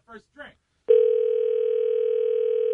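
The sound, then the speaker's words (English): Two brief bursts of voice, then a loud, steady telephone dial tone starts abruptly and hums on unbroken and even until the end. “Let's call someone who was there.”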